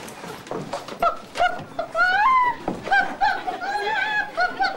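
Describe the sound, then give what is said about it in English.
A boy imitates a chicken with a run of choppy, squawking clucks, fairly loud, rising and falling in short bursts with brief gaps between them. “I'm doing a chicken”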